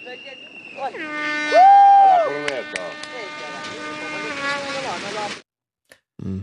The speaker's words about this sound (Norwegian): Her var det jo for det første en fløyte. Ja. Som var startskuddet for noen greier som hørtes ut som et lufthorn. Men noe mer enn det hørte jeg ikke.